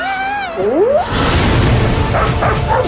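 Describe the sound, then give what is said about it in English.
A dog gives a rising, whiny yelp, then breaks into loud barking over a dense, noisy background, with no one talking, in the film Finch starring Tom Hanks, coming to Apple TV. “Robots must protect dog.”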